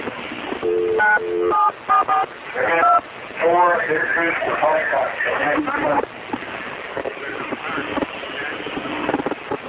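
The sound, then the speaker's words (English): A quick series of telephone keypad tones as David Koresh of the Branch Davidians dials 911 to the Waco police on the day of the raid, short electronic two-tone beeps over a thin, muffled phone line, followed by indistinct voices and crackly line noise. “You can hear the 911 tones on the telephone.”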